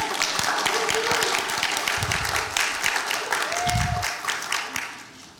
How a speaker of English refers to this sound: I was just curious as to anybody would clap a second time, but that's okay.